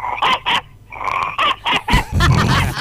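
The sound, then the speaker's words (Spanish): A person imitates a dog with a quick run of short, loud, yappy barks in a rough, nasal voice, ending in a longer, gruffer bark. “Sí, voy a hacer una voz de perro.”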